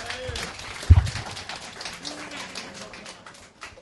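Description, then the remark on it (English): An audience applauds to choose between two contestants in a contest, with dense, scattered clapping that keeps going steadily for several seconds at moderate volume, a few sharper claps standing out and faint voices mixed in. “I think it's definitely between these two, so one more time, a show of applause.”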